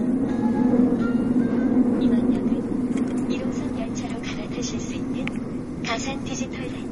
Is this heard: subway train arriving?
yes